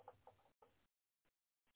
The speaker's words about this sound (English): Birds singing and chirping sounds real nice. But when you hear that, when the birds start to squawking and squawking and squawking and squawking, you'd be like, man.